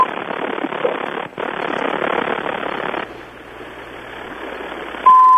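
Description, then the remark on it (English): A steady, loud electronic beep of a phone-call recording warning cuts in right at the end, after several seconds of hissy telephone-line noise with no talking. “The annoying beeping tape is what they used to have to put on phone calls so that you'd know you were being recorded.”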